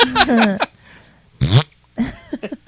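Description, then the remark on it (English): A short, buzzy fart sound, about a fifth of a second long, cuts in between bursts of lively vocal noise. It is fairly loud. “Fart in a crowded space.”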